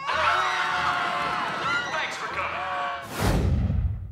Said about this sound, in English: Attention, please scream and run around in circles.